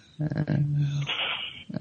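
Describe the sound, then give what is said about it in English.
A voice imitates the muffled, strangled scream of someone trapped in sleep paralysis: a strained, low moaning hum for under a second, then a breathy hiss of forced air and a brief grunt at the end. “And I'm screaming as loud as I can, and maybe at the most it comes out like that.”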